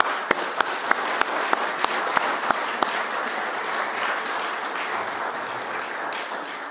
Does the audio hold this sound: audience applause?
yes